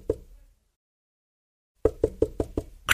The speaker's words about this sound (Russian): И только собрались старики сесть за ужин, как вдруг кто-то тихонько к ним постучался.